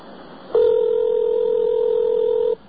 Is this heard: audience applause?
no